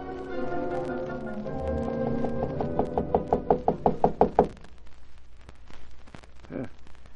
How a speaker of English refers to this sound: And according to Axford, they didn't get any response to their knocking.